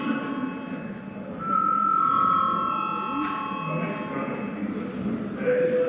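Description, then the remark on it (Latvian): A parliament voting bell rings before a vote on amendments to the children's rights protection law in first reading, a steady, sustained mid-high electronic tone that starts after about a second and a half and continues over a low murmur of voices in the chamber. “Lūdzu zvanu.”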